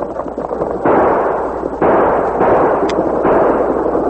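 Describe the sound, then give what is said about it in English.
A volley of loud gunshots as masked outlaws fire on a stagecoach's shotgun guard and driver, several heavy blasts going off in quick, uneven succession over a continuous rumbling roar, with no voices. “As Morgan grabbed his shotgun, Sax and Gloomy fired.”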